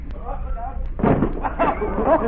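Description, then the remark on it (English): A man dives through a wooden door with a sudden splintering bang about a second in, then scattered rattling and cracking while voices murmur around it. “Say, Ben Grauer, bring that wooden door over here, will you?”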